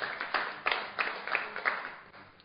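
A small audience claps together, a soft patter of many hands with sharper accents every third of a second or so. The applause is fairly quiet, with no voices, and fades slightly at the end.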